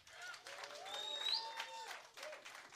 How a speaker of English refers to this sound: So let's pull the room real quick. By round of applause, Cubs fans in the room.